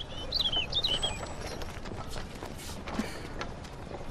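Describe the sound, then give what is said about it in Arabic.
Donkey hooves clop irregularly against a steady outdoor background, with a few quick bird chirps early on. One louder knock stands out near the end. “هي هي هي، توقف أيها الحمار.”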